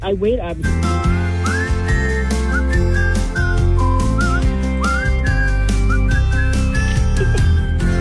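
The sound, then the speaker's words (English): A person whistles a lilting tune with sliding, clear high notes, steady over a continuous bed of background music that runs under the whole stretch. “Yeah, because your whistling pitch was really top notch today.”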